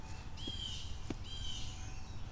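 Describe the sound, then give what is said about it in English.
Birds chirp outdoors in two faint, high trilling bursts, one after the other, over a low steady background rumble with no one speaking. “Yeah, yeah, birds.”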